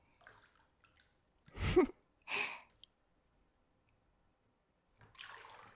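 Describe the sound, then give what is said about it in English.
Bathtub water draining, heard as two short splashy gushes followed by quiet, then a softer rushing hiss of water toward the end. No one speaks. “Here, I'll drain the tub and we can take a shower if you want.”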